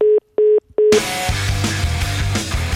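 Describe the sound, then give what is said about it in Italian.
Three loud, evenly spaced telephone beeps of the kind heard after a caller hangs up, each a steady tone with short gaps, then cut off as background music fades in. “Oh, per una volta non ha attaccato il telefono a te, caro David, eh?”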